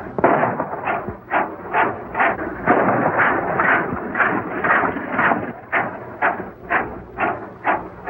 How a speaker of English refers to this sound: The old-timer ducks as the gang fires through the cloud of dust kicked up by Nellie.